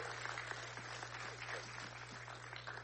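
A crowd applauds steadily, a dense wash of many hands clapping at even loudness throughout, with a constant low hum running underneath.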